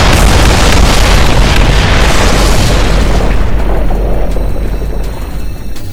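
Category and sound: sound effect, loud explosion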